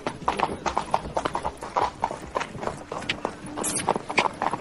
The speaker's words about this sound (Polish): Poszły konie po betonie.